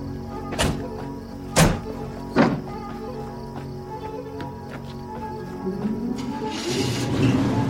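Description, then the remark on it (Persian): Three solid car doors thunk shut one after another as people get into a car, over a steady outdoor hum with faint insect chirps; an engine then starts and rises at the end. “سوار ماشین میشن.”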